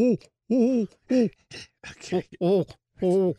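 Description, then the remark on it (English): A person imitates a great horned owl, voicing a series of five or six deep, wavering hoots in an uneven rhythm with short breathy gaps between them. “And this would be a great time to go out on a winter night and just take a walk in the woods and listen for the great horned owl.”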